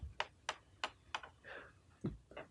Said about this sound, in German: Ich würfel schon mal dazwischendurch wieder.